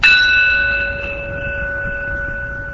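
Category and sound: signal or alarm, bell rung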